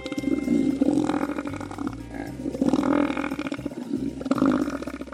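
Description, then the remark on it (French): A deep, guttural bellow from Robert the elephant seal rumbles loudly for about five seconds. It arrives in a few long, throaty surges with brief dips between them, and no one talks over it. “Alors, professeur et Robert l'éléphant de mer, quelle est votre réponse ?”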